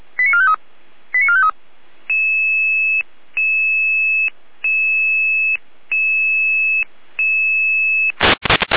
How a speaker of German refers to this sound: Überprüfung, Funkmeldempfänger Florian Saalfeld, Rudelstadt, Leitschener Ende mit Funkprobe.